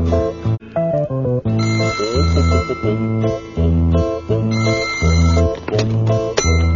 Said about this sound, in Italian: Chi le mai de matin che rompe so belin? O telefono?